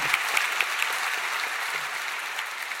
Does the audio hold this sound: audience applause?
yes